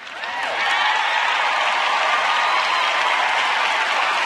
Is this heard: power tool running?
no